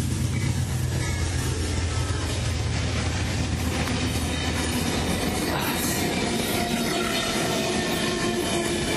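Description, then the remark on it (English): An Amtrak passenger train rumbles past, its steady roar of wheels and cars filling the air with rattling, clattering rail noise and occasional faint metallic squeals, loud and continuous throughout. “It's an Amtrak, so it won't take too long to pass.”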